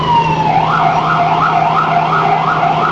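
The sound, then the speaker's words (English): An ambulance siren wails in quick, repeated rising and falling sweeps, loud, over a low, steady engine rumble, with no one speaking, as the ambulance is stuck in jammed four-lane traffic in New York. “I don't know how an ambulance is supposed to get from point A to point B.”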